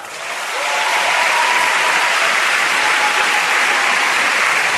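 Audience applause for one of the year's breakout artists swells within the first second and then holds as a steady, dense wash of many hands clapping, loud and sustained with no voices standing out.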